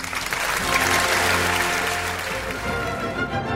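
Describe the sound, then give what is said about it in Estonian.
Sustained applause from an audience, a dense wash of many hands clapping at steady loudness for several seconds, with no voices standing out. “Applaus!”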